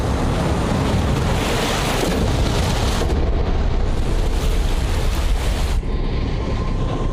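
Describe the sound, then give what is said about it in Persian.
A powerful, steady roar of water rushing in to fill a reservoir tank as it is activated and valves 1, 2 and 3 are opened, loud, with the torrent's texture shifting slightly a couple of times and no voices. “آغاز فعال سازی مخزن و آبگیری مخزن. باز کردن دریچه های 1 2 3.”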